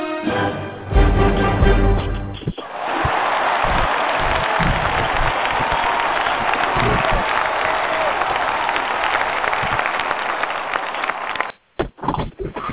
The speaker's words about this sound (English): And the crowd went narcoleptic. They do that. They just jump out. They applaud and go back to sleep. I think it's part. We have a room for Narcoleptics Anonymous in there, and they come in. They applaud. Go back to bed.